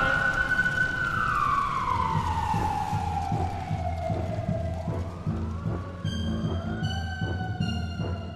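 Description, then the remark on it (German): A fire engine siren wails loudly as the fire brigade arrives to put out a burning garage. Its pitch slides steadily downward, then gives way to a series of blaring horn blasts over a low, rumbling engine, with no voices. “Oh Gott sei Dank, die Feuerwehr!”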